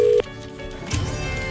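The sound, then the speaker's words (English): A steady electronic ringback tone from an outgoing phone call sounds loudly for a moment, then cuts off, leaving a quiet low background hum with no one speaking. “The phone is ringing.”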